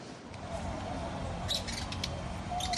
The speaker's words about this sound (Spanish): La tarde está por terminar en Caracas y el agudo silbido de los colibríes comienza a escucharse en los jardines Topotepuy, un centro ecológico para la observación de aves y conservación de bosques que se levanta entre las montañas de la capital